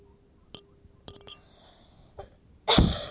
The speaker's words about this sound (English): Smoker's cough. I don't smoke.